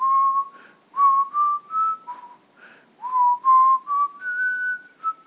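A person whistles a lilting tune, clear and close, with smooth sustained notes rising and falling in two phrases separated by a brief breath, no talking.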